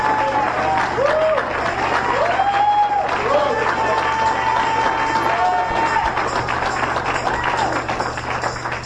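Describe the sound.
An audience at a church service claps their hands for the Lord Jesus in a steady, dense wash of applause that lasts the whole time, with scattered voices calling out and rising in pitch above the clapping.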